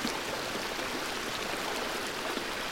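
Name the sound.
rushing stream water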